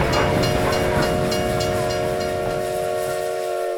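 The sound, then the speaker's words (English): A train with an express car and caboose pulls away from a station by a hotel with a steady, loud rumble and a sustained horn-like whistle tone held throughout, while faint rhythmic clanks of the cars repeat. “The sound of the train leaving the station awoke some of the guests at the hotel”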